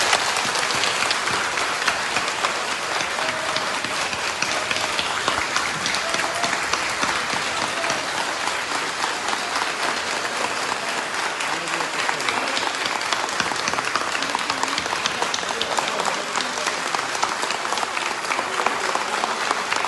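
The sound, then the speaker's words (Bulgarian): Sustained applause from a large audience in Dulovo, clapping for Mr. Borisov: a dense steady wash of clapping at even loudness throughout, with faint crowd murmur underneath. “Аплодисменти за господин Борисов!”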